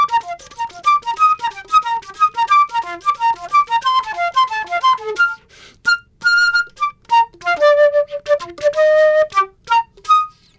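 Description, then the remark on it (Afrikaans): A musician plays one of his several flutes as a studio guest: a quick, lively melody of rapid running notes, then slower held tones and trills toward the end, bright, with no voices. “Hy het nou vir ons al so 'n stukkie gespeel op sy verskeie fluite, 4 keer genomineer vir Grammys.”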